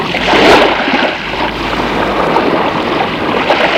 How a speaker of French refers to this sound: On les récupère sur la mer en bateau à moteur.